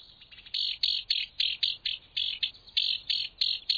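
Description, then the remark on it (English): A house wren scolds from inside a thicket, giving a run of harsh, buzzy notes, about a dozen rapid bursts in a steady rhythm, fairly loud with no other sounds around it. “That cocked tail, twitching sharply as the house wren scolds, puts an exclamation point on the wren's perky voice and attitude.”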